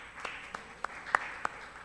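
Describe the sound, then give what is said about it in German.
Five sharp hand claps in a steady, evenly spaced rhythm, moderately loud over a faint background hiss, with no voices; applause in a church audience for members who have attended for over 20 years. “Ja, wow, hey, ein Applaus.”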